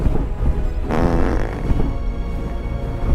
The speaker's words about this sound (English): This fart is amazing